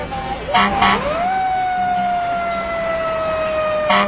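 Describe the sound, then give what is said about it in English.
A converted fire truck's siren winds up from a low growl into a loud, steady wail that holds for several seconds, with short bursts of noise near the start and end. “With our fleet of converted fire trucks, META can now spread mayhem wherever the enemy swarms, like anti-hunting rallies and veggie-dense green markets.”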